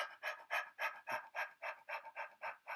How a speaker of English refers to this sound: So if you haven't done Breath of Fire before, you can practice, you can get a sense of it like this. Just stick your tongue out and pant like a dog.